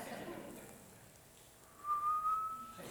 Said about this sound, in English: There's this loud whistle.